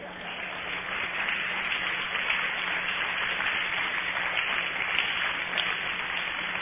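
Steady audience applause for a young man who has just earned his pilot's license, a dense wash of many hands clapping that holds at an even, fairly loud level for several seconds with no voices over it.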